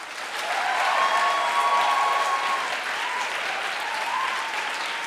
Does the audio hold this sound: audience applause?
yes